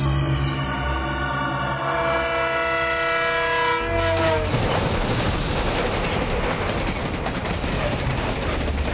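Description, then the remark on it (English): A train roars past overhead on an elevated railway, loud, a sustained horn-like whine giving way after a few seconds to heavy, continuous rumbling and clatter. “Black sits on the curb in the shade of the tracks of an elevated railway with two other bits of flotsam.”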